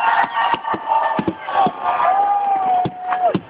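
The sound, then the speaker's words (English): A large crowd chants a New Year countdown together, many voices merging into a loud, dense roar broken by sharp bursts, with a sustained whistling tone running through it. “They're counting.”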